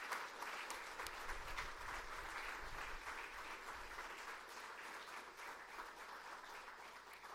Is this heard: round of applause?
yes